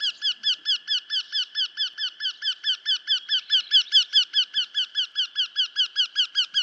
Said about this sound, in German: Aber der Ruf ist doch sehr charakteristisch. Und so können wir den Vogel sehr gut nachweisen, weil wir den Ruf auf den Audiodateien haben.